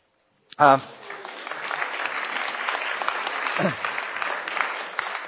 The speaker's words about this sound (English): Now, they never clap for me when I come up. So that was your big welcome and big introduction, all right?